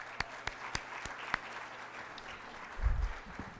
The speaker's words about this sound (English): before I start my presentation, I think everybody should give a big round of applause